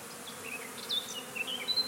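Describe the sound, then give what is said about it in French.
Bees buzzing in a steady, droning hum that rises and falls slightly, with a few faint high chirps scattered over it and no voices; one bee forages at the corner of a person's eye, its abdomen vibrating. “Je vois les ailes des abeilles grand format, l'abdomen qui vibre.”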